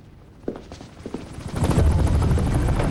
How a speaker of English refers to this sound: The rescue helicopter is silhouetted against a bright orange sunset. After flying low near a lake, it turns and gradually loses more altitude. It swoops down, then lands on the white cross of a hospital's helipad.